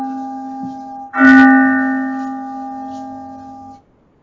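bell ringing

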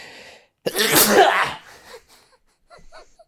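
a person sneezing

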